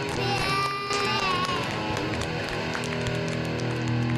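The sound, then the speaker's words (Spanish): A recorded applause effect: a dense, steady burst of crowd clapping and cheering, loud and continuous for a few seconds with a few whoops mixed in. “Bueno, vamos a los aplausos y ya está.”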